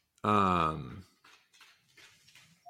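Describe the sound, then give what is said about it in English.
A dog lets out one loud, drawn-out whine, its pitch sliding downward over about a second, followed by faint, quiet talking in the background. “The dogs are dogs are whining.”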